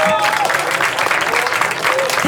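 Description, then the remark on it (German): An audience at an ORF broadcast applauds steadily, dense rapid clapping at a constant loud level throughout, with a faint tonal whistle or voice briefly rising above the noise. “Das ist euer Applaus.”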